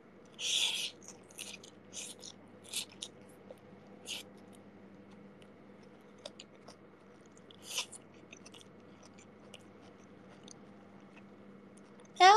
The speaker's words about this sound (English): I'm sorry. I'm chewing up there. Let me swallow.